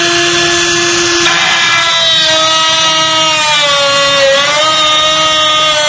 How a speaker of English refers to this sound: This is a very special reaming tool, and it just doesn't hardly touch the surface of the lock. There are special anti-drill pins, and as you can see, it's not getting anywhere. Again, this is an EVA 3KS, very popular in Europe.